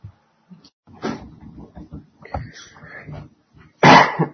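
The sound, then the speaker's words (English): Several harsh coughs spread over a few seconds, with smaller throaty sounds between them and a loud, forceful final cough. “Excuse me, I have coughing problems today.”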